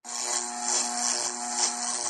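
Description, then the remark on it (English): A steady, buzzing mechanical drone with stacked low tones and a bright hiss on top, subtly wavering and beating as unsynchronized airplane propellers, spinning at slightly different RPMs, hum against each other, heard inside an airplane, with no talking. “So I guess if the RPMs of the propellers are not spinning exactly at the same speed, you get that dissonant noise.”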